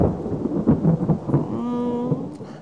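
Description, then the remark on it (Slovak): Thunder rumbles low and heavy over a steady wash of falling rain, with a few louder swells in the first second before the storm settles into a continuous roar. “Bude pršať.”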